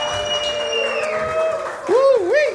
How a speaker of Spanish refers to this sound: Fuerte aplauso para